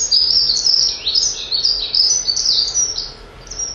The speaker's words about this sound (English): Well, these are the dunnocks. These are the ones that are very, they creep around on the floor an awful lot. You'll see them dashing away. So they have this great jumble sound. And they're singing all the time at the moment.